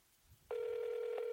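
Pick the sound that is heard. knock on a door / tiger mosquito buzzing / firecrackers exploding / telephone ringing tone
telephone ringing tone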